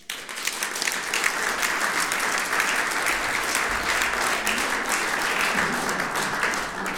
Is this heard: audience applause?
yes